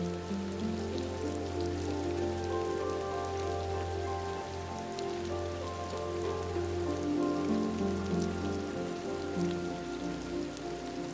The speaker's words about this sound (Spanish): El jardín parece respirar con la lluvia, que cae también sobre un precioso estanque de peces koi situado frente a ti, creando preciosas ondas en la superficie.